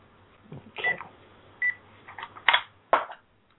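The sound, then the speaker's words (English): A couple of short electronic keypad beeps from a telephone, spaced about a second apart, as the phone is disconnected and its ringer turned off, mixed with plastic button clicks and handling noise, with no talking. “Obviously, let me disconnect the phone and turn off the ringer again.”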